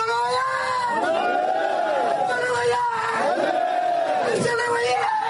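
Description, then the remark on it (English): A crowd of waiting supporters at Juba Airport cheers continuously as 13 former detainees step off a plane, many voices overlapping in loud, sustained shouts and high calls that rise and fall in pitch in waves. “The 13 former detainees stepped off a plane at Juba Airport today to the cheers of waiting supporters.”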